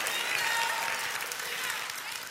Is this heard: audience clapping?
yes